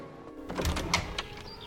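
The back door of a home is opened as someone lets himself in, with a few quick mechanical clicks and rattles from the latch and hinges and a soft low thump, over a quiet room background.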